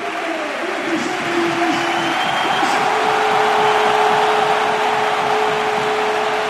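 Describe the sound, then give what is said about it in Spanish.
The Sevilla crowd at the Sánchez Pizjuán stadium in Nervión rises to give a loud, sustained ovation as Jesús Navas comes on for Ocampo, a dense, steady roar of cheering and applause that holds at the same level for several seconds, with a thin held tone running through it. “Escuchamos la ovación de Nervión.”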